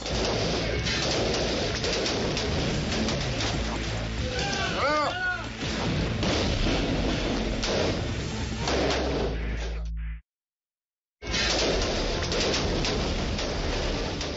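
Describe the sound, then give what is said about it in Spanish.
Loud, dense bursts of automatic gunfire crackle almost continuously, with a brief high cry mixed in, then a sudden moment of silence before the shooting resumes, in a firefight at a house between Mexican Navy special operations soldiers and gunmen using AK-47 and M4 rifles. “Son disparos con armas automáticas.”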